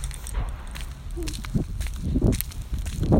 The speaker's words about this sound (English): So I just took out my phone and hit record on the voice memo app. A sprinkler landing on the garden, on the hostel leaves, in the yard I walk by.